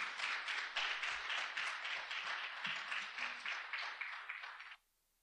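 A crowd applauds steadily, many hands clapping in a dense, even wash of sound for nearly five seconds before it cuts off abruptly into silence.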